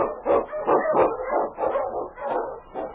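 Huskies in the Yukon barking in a rapid, overlapping chorus, loud, with sharp yips and a few whining notes mixed in, continuing steadily without pause.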